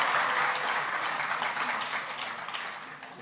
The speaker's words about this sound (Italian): L'applauso per l'Iliade è veramente è bello, meraviglioso.